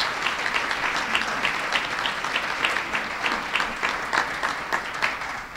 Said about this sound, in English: So please, a round of applause to our team here.